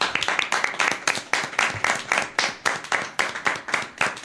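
Applause from a group of people during the Onda Más programme on the Eco Leganés radio station: steady, dense, sharp hand claps ringing out for about four seconds at a fairly loud, even level, with no one speaking over it.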